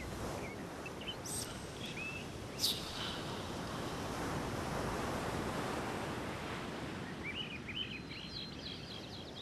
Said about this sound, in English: Can you hear the rhythm of a lost creation? The wind, the waves.